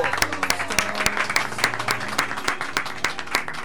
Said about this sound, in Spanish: Pueden aplaudir. ¡Bravo!